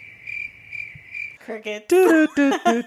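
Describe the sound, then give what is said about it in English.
A steady, high-pitched cricket chirp sound effect pulses rhythmically for over a second, then cuts off as loud voices take over. “You better put them crickets in.”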